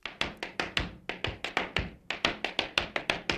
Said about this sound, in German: Du hast auf meinem Handy ein Audio angeschaltet, wo jemand steppt. Ja, ich steppe da.